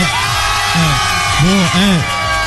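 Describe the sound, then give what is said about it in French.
A radio studio audience yells and cheers, several voices rising and falling in drawn-out whoops over a steady crowd roar, loud throughout. “Quand il y a les gens qui crient. Est-ce que les gens crient?”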